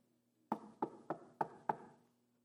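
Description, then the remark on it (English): Five firm knocks on a wooden door in a quick, slightly uneven rhythm, clear, each one ringing out briefly before the next, with no voices. “How many of you have heard that knock?”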